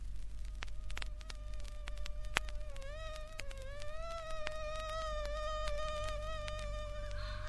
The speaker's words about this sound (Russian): Кто это? Комары? Да-да. На смену мухам прилетели комары. Господи! Они ни на минуту не умолкали. Зудели и кусались. Кусались и зудели.